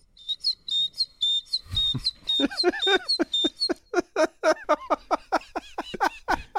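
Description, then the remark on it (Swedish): A man's voice mimics a great tit's song: rapid, repeated high whistled chirps in a steady rhythm, clear, shifting partway into buzzier rising notes, with no talking. “Här briljerar han då med talgoxen.”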